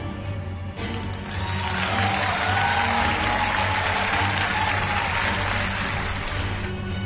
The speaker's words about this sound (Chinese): 一阵掌声过后，恐龙校长浑厚的声音在奇幻学校的上空响起